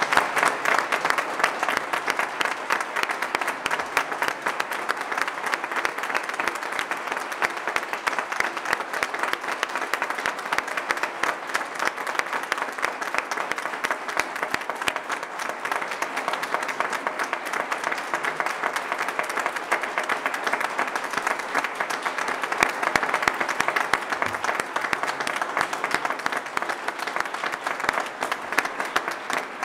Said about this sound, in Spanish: Y quiero, de verdad, a darle un fuerte aplauso por todo lo que ha significado Carmen.